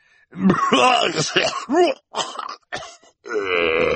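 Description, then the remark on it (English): A man's voice acts out Mr. Poe coughing into his handkerchief: a run of wet, guttural coughing and throat-clearing, several close, loud bursts separated by brief pauses, ending in a drawn-out rasping groan. “Mr. Poe took out his handkerchief again, and the Baudelaires waited as he coughed into it before replying.”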